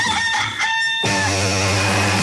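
A rooster crows loudly, one long strained call that rises, then wavers and trails off over about two seconds, with no talking.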